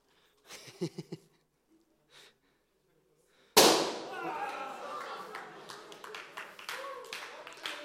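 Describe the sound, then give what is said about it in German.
A balloon bursts with one loud, sharp bang after brief faint voices, followed by a noisy stretch of scattered cracks and chatter that slowly fades. “Vielleicht habt ihr jetzt auch gemerkt, je mehr aufblasen ein Ballon ist, desto lauter klebt.”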